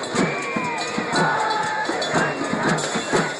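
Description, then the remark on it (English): A large Occupy movement protest crowd cheers and shouts together outdoors, a dense, continuous roar of many voices with rising yells and rhythmic bursts, loud throughout. “As those crowds grew, something happened that nobody predicted.”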